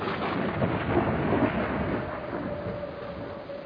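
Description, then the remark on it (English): A terrible storm catching a pirate ship at sea: a stormy roar of rumbling thunder and rushing wind-driven rain, steady and fairly loud throughout, swelling slightly early on before settling into a constant dense wash with no voices. “But his pirate ship was caught in a terrible storm.”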